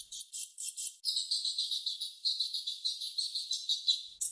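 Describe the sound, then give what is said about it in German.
Daubenton's bats giving defensive calls when disturbed: a rapid, continuous series of high-pitched, buzzy chittering pulses, about five per second, with no voices. “So klingt es, wenn man Fledermäuse stört. Genau genommen sind das die Abwehrlaute von Wasserfledermäusen.”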